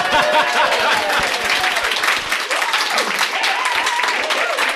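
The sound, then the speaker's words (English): A crowd applauds steadily at the 2023 Skyjacks Gen Con live show, dense clapping filling the whole stretch at a loud, even level, with a few cheers and raised voices mixed in. “You can clap.”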